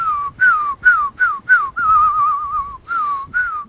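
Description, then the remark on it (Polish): A person whistles to call pigeons out of their cage into a yard: a series of short, falling calls, about eight in a row, with one longer wavering whistle in the middle, fairly loud with no talking. “Wychodzą z klatki, już jak zaczął gwizdać na podwórko, popatrzysz.”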